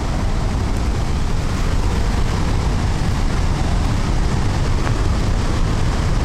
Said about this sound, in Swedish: Och man hör ju här vattenmassorna. Nu ser vi Handelsforsen också.